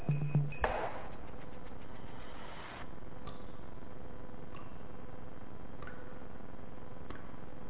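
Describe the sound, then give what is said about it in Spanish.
Water drips fall one by one at a slow, fairly regular pace, each a soft tick over a steady wash of flowing or hissing water. No one speaks. “Este sonido, que puede resultarnos agradable, que consigue remitirnos a buenos momentos, porque el agua en general está relacionada con recuerdos gratos de nuestra vida, en realidad debería preocuparnos.”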